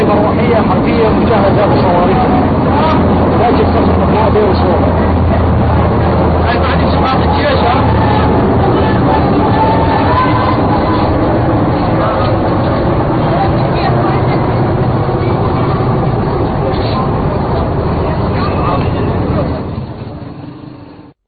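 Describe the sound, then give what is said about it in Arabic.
Six military helicopters roar overhead over Deir ez-Zor, Syria, in a loud, continuous rumbling drone, with a murmur of crowd voices mixed in, before the noise fades out at the very end. “طائرات مروحية حربية بدير الزور.”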